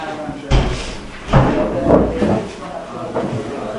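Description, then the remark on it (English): A door is opened with a couple of wooden clunks and thuds, one near the start and another a moment later, while faint voices murmur. “open the door and we'll see if the people are gathering together for Baruch Hu.”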